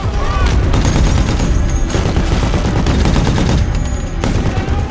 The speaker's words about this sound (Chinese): 车内的士兵立刻抓住机会，操控遥控重机枪锁定敌方迫击炮阵地，疯狂扫射火力。